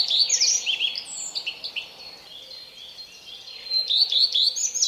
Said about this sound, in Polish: I później, uwaga, uwaga, mamy zakończenie. Zakończenia zdarzają się u różnych ptaków, akurat pleszka. Każde zakończenie musi inaczej wykorzystać, wplatając tam często jakieś zapożyczenie od innego ptaka.